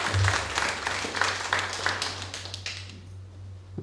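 An audience claps together in a dense burst of applause that holds steady for a few seconds, then tapers off, with a low steady hum beneath it.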